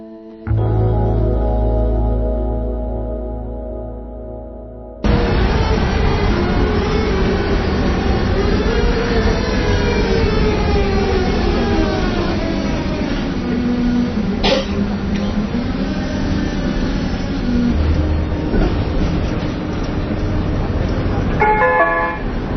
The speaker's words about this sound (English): we, the producers of the Harmony Frazier Show, will inject the highly realistic sounds of Prague trams